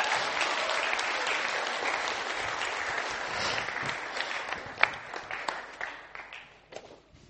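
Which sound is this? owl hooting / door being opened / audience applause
audience applause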